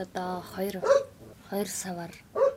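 A dog barks again and again in short, sharp bursts, moderately loud, with only brief pauses between the barks, at a ger tent settlement on the edge of Ulaanbaatar, Mongolia.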